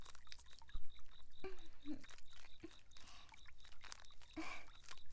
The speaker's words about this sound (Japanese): 弟ちゃん、目の前にあるボディーソープ手に出して泡立てて。はい、お姉ちゃんにもわけわけしてね。よく泡立つソープね。いいもの使ってる。